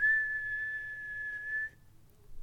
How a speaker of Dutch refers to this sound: Toen, op een grijze ochtend, klonk er een fluittoon van overzee.